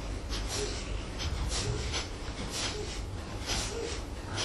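Rapid, forceful yogic breathing, an ancient yoga breathing technique over 2,500 years old: a quick, steady series of sharp nasal exhalations, roughly two per second, moderately loud over a low background hum, with no talking.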